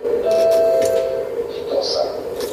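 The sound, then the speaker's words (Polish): A tram bell rings out with a bright, sustained metallic tone that hangs for about a second, then lingers faintly over a steady rumbling background. “Czyli jak zadzwonimy dzwonkiem, to on też dzwoni tu, gdzie on w rzeczywistości jest, prawda?”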